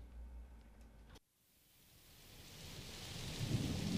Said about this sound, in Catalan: Mira, sí que plou